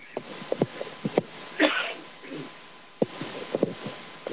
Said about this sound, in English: This happens, I don't have a sneeze button. I just have to hold the microphone away.